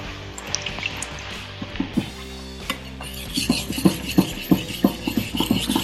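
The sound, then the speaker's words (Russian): A knife blade is drawn over a fine-grit whetstone mounted on a small rubber-footed non-slip stand, in quick, steady back-and-forth strokes, a soft hissing scrape that grows louder and more pronounced partway through. No one speaks. “Ну, у этого звук еще более другой, чем у двух предыдущих. Здесь мелкое зерно.”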